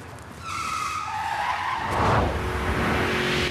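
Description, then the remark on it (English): Car tires screech in a sustained, high-pitched skid as a red car with white pointed stripes reverses out of an underground car park and spins 180 degrees, the squeal wavering and then giving way to a loud engine roar with a rumbling low end. “Starsky reverses back and spins a 180 right next to Hutch.”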